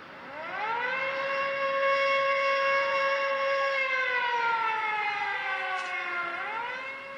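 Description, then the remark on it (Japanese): An air raid warning siren wails in a long sustained tone, rising at the start, holding steady, then dipping and climbing again near the end, interrupting work at a factory making parts for military aircraft engines. It is loud, with no voices. “そんな工場での作業もたびたびの空襲警報で中断されることが多くなったある日のこと”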